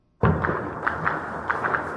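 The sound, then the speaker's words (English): Gunfire crackles in irregular bursts across Khartoum, Sudan, on a Monday afternoon amid fighting involving the Rapid Support Forces, several sharp reports echoing over a constant rumbling city background after an abrupt start. “The sounds of gunfire echoed across the Sudanese capital, Khartoum, and other towns Monday afternoon.”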